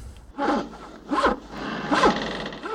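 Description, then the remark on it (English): Rhythmic rasping saw strokes cutting through wood and a desk aboard the ship Venus, three long scraping pulls spaced a little under a second apart, each rising and falling in pitch, with no voices. “But Albert, you're sawing through the desk as well!”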